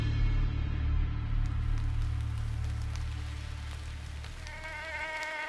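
The buzz of an Anopheles maculipennis mosquito, a malaria carrier, drones on continuously and fairly loud over a low, steady hum, with faint ticks scattered through it; toward the end a sharper, higher whine rises. No one speaks.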